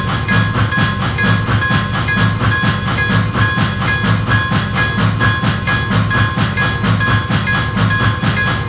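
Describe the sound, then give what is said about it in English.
A passenger train, train number 98, the Morning Daylight, rolls steadily along the tracks on track number 2, its loud rumble and metallic hum continuous throughout with no voices. “Francisco on track number 2, train number 98, the morning daylight.”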